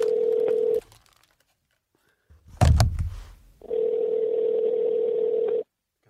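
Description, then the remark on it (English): A phone line ringing: two long, steady, buzzing ring tones separated by a pause, with a brief handling clunk in the gap. No one speaks. “It's ringing.”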